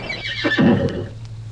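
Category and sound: animal, horse neighing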